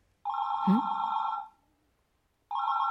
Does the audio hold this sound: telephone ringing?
yes